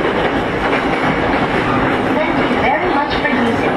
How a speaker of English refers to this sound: This is the Shonan Shinjuku Line train for Kagohara via the Takasaki Line. Green cars are car number 4 and number 5.